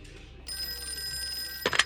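An old-style telephone bell rings steadily for over a second at a sheriff's station, a call from a retired heavy equipment operator, then a brief clattering burst cuts in near the end. No one speaks.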